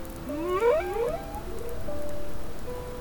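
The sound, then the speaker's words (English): Rising, sweeping whale calls glide upward in a series of tonal swoops, followed by long sustained moans over a steady wash of underwater noise, with no voices present. “Together they sang of happiness and hope, magic and wonder, always and everywhere.”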